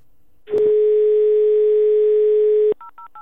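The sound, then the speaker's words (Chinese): A click of a handset lifting, then a steady, loud dial tone for about two seconds, followed by three quick, evenly spaced keypad beeps as a number is dialed, placing an investigative phone call to Zhou Yongkang after the 2008 Sichuan earthquake. “在2008年四川地震后，对周永康电话调查取证。”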